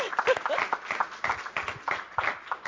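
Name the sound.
audience applause and clapping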